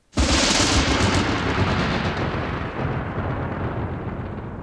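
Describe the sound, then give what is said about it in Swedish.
A sudden, loud crack of thunder from a violent thunderstorm breaking out on a Saturday around Ljusdal, Sweden, after a long drought, bursts out and rolls into a heavy, continuous rumble that fades only slightly over several seconds, with no voices. “När man under lördagen ser fram emot en helg med välbehövlig vila så bryter ett häftigt åskväder ut.”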